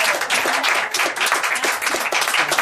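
An audience applauds together, a dense, steady wash of many hands clapping at full volume with no voices standing out.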